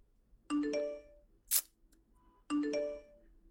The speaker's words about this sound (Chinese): 不是让你把手机关声音了吗？这谁消息那么吵啊？